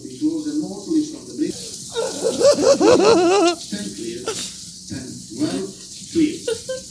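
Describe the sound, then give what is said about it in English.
A steady, hissing rush of flowing water that is coming closer, fairly loud, running through the whole stretch, with a voice talking briefly over it partway through. “Also, the water is getting closer, so we have got to wrap this up. I'm afraid it's going to pour on the computer.”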